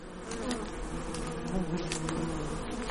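A dense, steady drone of many bees buzzing together around a flowering hundred-year-old linden tree, a continuous hum almost on one note that swells slightly now and then.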